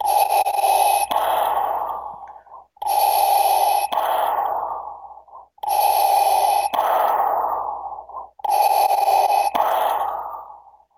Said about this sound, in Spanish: Bien creepy. La respiración toda así, ariosa.